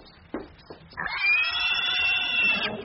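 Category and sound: animal, pigs grunting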